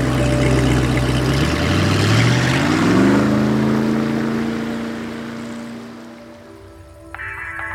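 A motorboat moves across the water, its engine revving up and settling into a steady drone over rushing, splashing noise, then easing off and fading near the end.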